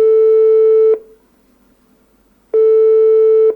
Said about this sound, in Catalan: Per això trucarem ara mateix al telèfon